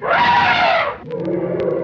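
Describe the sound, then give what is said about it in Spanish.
A loud, brassy elephant trumpet blares for about a second, forceful, then drops away into quieter background sound with a few soft taps. “elefante. Es el encargado de tocar los...”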